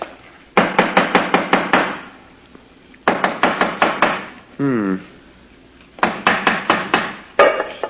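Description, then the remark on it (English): A hammer taps on a stone in the corner of a house in three quick bursts of about six sharp strikes each, with a brief murmured voice between the second and third bursts; the stone sounds hollow. “Let me have the hammer”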